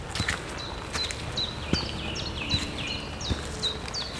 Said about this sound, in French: Il y a aussi ces chants d'oiseaux qui semblent marquer leur territoire.